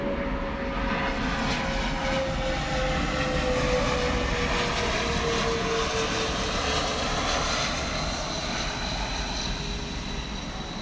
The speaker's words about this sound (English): Sorry, it's a plane. Hold on.